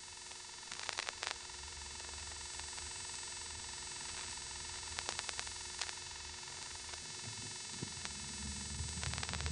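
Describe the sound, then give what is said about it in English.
A steady electrical buzz on a telephone line of a step-by-step exchange hums throughout, with clusters of sharp clicks and mechanical dialing and selector cut-in noises, live crosstalk from the exchange office, breaking in at intervals. No one speaks. “In addition to the buzz that I'm talking about, there's another sound going on which I don't even know how to describe.”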